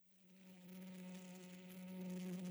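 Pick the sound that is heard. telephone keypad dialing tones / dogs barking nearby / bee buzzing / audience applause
bee buzzing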